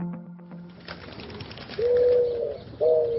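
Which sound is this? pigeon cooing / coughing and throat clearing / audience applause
pigeon cooing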